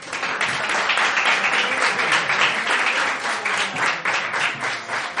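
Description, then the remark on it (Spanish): A crowd applauds loudly and steadily to welcome back two game show contestants, with dense overlapping claps forming a continuous roar for several seconds without letting up. “Bueno, pues tras esta explicación tan edificante, recibamos nuevamente con un fuerte aplauso a nuestros concursantes”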